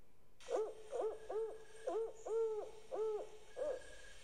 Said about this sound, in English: And if you are patient, if you are silent, you will hear it. A haunting query echoing from the woods. Perhaps it will be the rhythmic inquiry of the barred owl.